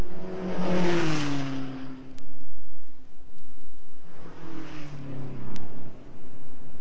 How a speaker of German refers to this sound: was hältst du davon, wenn wir uns an die Straße stellen und den Autos und Lastwagen zuwinken? Vielleicht nimmt uns jemand mit.